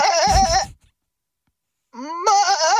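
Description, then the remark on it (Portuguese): A listener imitates a sheep's bleat with a wavering, goat-like quality, a mix of sheep and goat, in two loud bursts separated by about a second of silence. “iríamos eleger a ovelha, a imitação de uma ovelha deste país”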